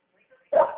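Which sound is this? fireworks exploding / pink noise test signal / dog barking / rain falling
dog barking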